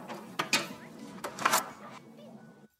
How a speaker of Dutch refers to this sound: Wie bonkt er nou zo hard op de deur? Wacht, ik doe wel even open.